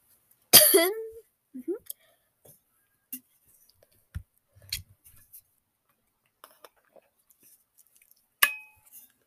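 coughing

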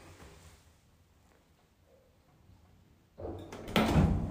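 elevator doors opening

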